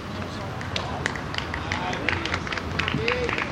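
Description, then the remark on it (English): An audience in Santa Cruz clapping as a performer is introduced: a steady patter of irregular, sharp claps at moderate loudness over a low murmur of crowd voices, lasting throughout. “Don't clap, throw money, no.”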